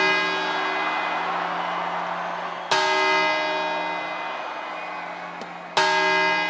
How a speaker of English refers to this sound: A dozen grapes, hopefully without seeds. That makes them easier to gobble with each strike of a clock tower in Madrid's Puerta del Sol, the Spanish equivalent of Times Square. Ahora las campanadas.